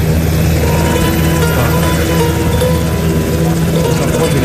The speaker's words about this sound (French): On dit au revoir aux militaires, tout le monde se précipite vers l'hélico